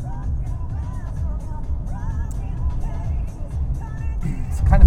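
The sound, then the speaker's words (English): A car engine drones steadily from inside the cabin, with muffled talk underneath, then a short, sharp throttle blip surges up at the very end as the driver downshifts using the Steptronic manual transmission. “That little blip, throttle blip, that it does when you're doing the Steptronic, using the Steptronic manual transmission.”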